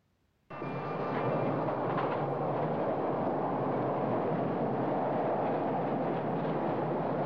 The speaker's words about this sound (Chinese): 整个电车里一直有这么多人，这么拥挤